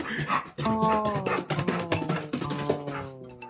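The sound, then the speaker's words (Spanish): A puppy, Alejo, whimpers and yips in high, drawn-out whines with short sharp yelps, continuous throughout, with other busy sounds mixed underneath. “Y así, con la ayuda de Dani, el cachorro Alejo pudo ser rescatado y volver donde estaba Leo haciendo el castillo de arena.”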